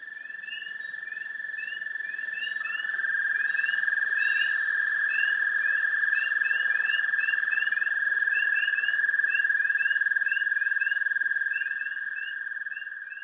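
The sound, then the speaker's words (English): A dense chorus of spring peeper frogs and other frogs calling around a Carroll County pond, high piping peeps overlapping continuously over a steady trilling drone, fairly loud and unbroken throughout, with no voices. “Spring peepers and other froggy companions croon in chorus around a Carroll County pond.”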